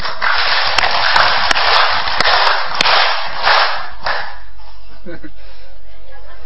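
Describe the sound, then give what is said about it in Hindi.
A crowd claps together in a dense burst for about four seconds, a few sharp louder claps standing out at fairly even intervals, before the clapping quickly dies away. “मैं ताली बजाऊं तो आप बजाएंगे, मैं नहीं बजाऊं तो आप नहीं बजाएंगे, ठीक है।”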